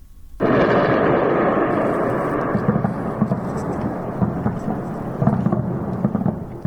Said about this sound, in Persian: خب تا حدود ساعت 5 صبح رسانه‌های ایران از وقوع چندین انفجار خبر دادن که علاوه بر تهران پایگاه‌های نظامی اطرافش و چند شهر دیگر رو هم به نوشته این رسانه‌ها تحت تاثیر قرار داده بود.